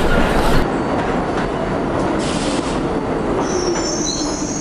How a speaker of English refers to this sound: There's a train approaching the station. Please stand away from the platform edge. Compass point, 40.48 degrees north, 73.56 degrees west, Harlem, USA.